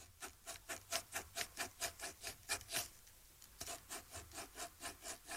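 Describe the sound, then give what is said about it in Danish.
A pen scratches rhythmically across paper, with the microphone pointed down at the paper, drawing out the rhythm of the children's song Se den lille kattekilling: a steady series of short, bright rasping strokes, about two per second, with a brief pause partway through before the pattern resumes; no one speaks. “Peger mikrofonen ned mod det papir her, så kan man tegne, en sang ved at rytmisk tegne en.”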